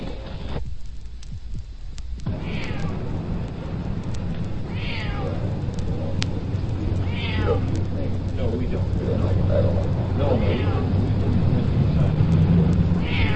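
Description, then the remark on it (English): A cat meows repeatedly, four or five drawn-out cries spaced a few seconds apart, heard from about four houses down a residential street, over a constant low rumbling background with some faint, indistinct voices. “We're down the street about four houses from where the cat is.”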